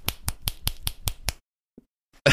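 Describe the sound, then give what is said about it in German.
Seven sharp, crisp finger claps in a quick, steady rhythm, made by striking the index finger against the middle finger, followed by a short pause and a brief faint tap. “Klatschen mit Zeigefinger auf Mittelfinger und das hört sich so an.”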